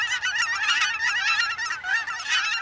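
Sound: canada geese honking overhead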